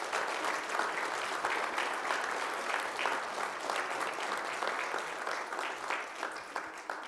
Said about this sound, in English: This is the last Sunday. Let's just clap and welcome them and thank them.